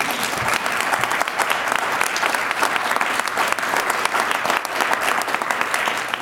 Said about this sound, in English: So it's my pleasure today to announce as one deputy mayor, Thomas Baines. You can clap for Thomas.